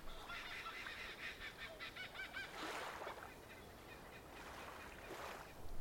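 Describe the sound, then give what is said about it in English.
A kookaburra's laughing call rings out as a fast, chattering series of hoarse notes, fairly faint, with soft rushing swells of background noise rising and falling behind it. “As you settle and mentally unwind, a friendly kookaburra lands in front of you, enjoying its dinner for the day. Its laughter echoes.”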